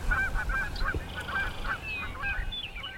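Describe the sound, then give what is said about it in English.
Canada geese honk repeatedly as they fly in at a pond, several calls overlapping in a steady, rhythmic chorus, clear above a low outdoor rumble. “We've got some Canada geese coming in.”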